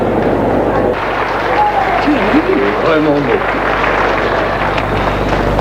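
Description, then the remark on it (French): An audience in a courtroom applauds steadily for several seconds as society women in fur coats and jewellery stand up to clap, a dense wash of clapping with a few voices calling out faintly beneath it. “Des femmes du monde en manteau de fourrure et bijoux se lèvent pour applaudir.”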